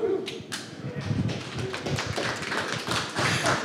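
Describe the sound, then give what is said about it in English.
A steady burst of group applause, dense overlapping claps sustained at an even level for a few seconds, with a few sharper individual claps standing out. “I like starting my own applause.”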